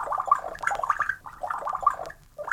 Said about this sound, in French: Débouche la bouteille. Verse à boire.